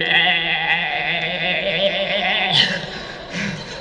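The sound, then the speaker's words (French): A voice imitates sheep bleating: one long, loud, wavering bleat held for several seconds, quivering throughout, with a brief break near the end before it trails on, alone. “Et les brebis, elles étaient toutes comme ça derrière le berger.”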